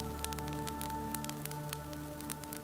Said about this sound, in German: Am anderen Ende des Raumes prasselt ganz sanft das Feuer eines Kamins.